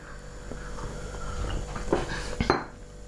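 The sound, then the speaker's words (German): Tea is poured into cups over a soft, steady background hiss, with a few sharp ceramic clinks near the end as cups are set down. No one speaks. “So, jetzt schütte ich aber mal den Tee ein.”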